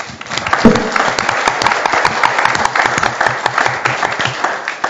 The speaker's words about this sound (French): Je crois qu'on peut les remercier publiquement, et puis quand elles verront cette vidéo, ça leur fera plaisir, donc je vous propose de les applaudir.